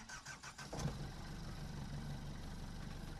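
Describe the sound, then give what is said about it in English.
A boat engine that had been out and was just fixed catches with a brief rough burst, then settles into a steady, low rumbling idle that holds evenly to the end, with no voices. “Caked it until it started again.”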